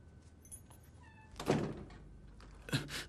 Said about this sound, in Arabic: بس كمان رح أقفل عليك الباب لأنه أنا ما بوثق فيك.